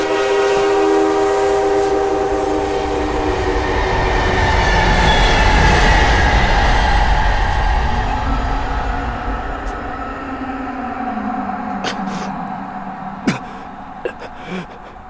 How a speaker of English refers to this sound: That's weird. You usually don't hear the trains from here. That's not a newer train either. What do you mean? That sounds like a steam engine. Huh. I didn't know that they still use steam locomotives. You don't.